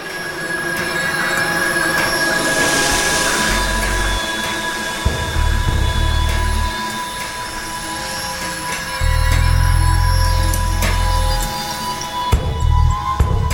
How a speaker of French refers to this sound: C'est une tourelle. Mais c'est une tourelle Nerf. C'est une tourelle qui tire des billes en plastique.